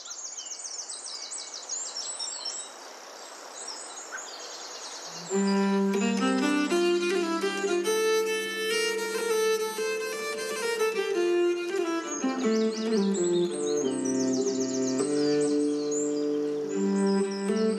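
Birds chirp and twitter in a woodland setting over a soft wash of ambience. After a few seconds, sustained melodic music comes in and the birdsong carries on faintly above it.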